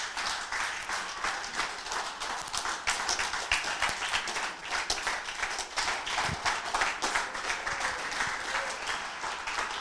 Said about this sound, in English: Hey, today you are clapping, Pa. Me understand.